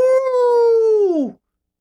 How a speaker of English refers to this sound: Can you imagine that you're sitting there meditating for weeks, and then one day you just have this uncontrollable urge to start howling like a wolf.